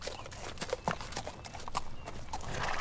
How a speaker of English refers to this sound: Okay, here, we've got two more horses hitched here that you can borrow. Let's saddle up and get moving. We don't got much time to spare.